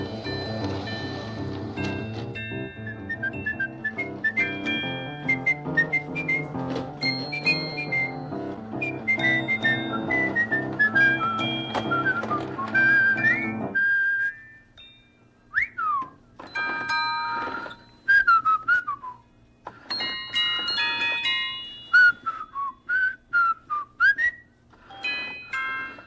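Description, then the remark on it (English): Someone whistles a lilting tune, first over bright chiming music with bell-like dings from a trolley, then alone in clear phrases with short pauses between them. “It is so much fun to whistle.”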